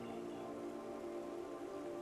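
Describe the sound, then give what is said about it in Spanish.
Soft, steady murmur of flowing stream water, a continuous gentle wash with no pauses or voices, staying quiet and even throughout. “Escucha el murmullo del agua cercana. Escúchala fluir como en un río.”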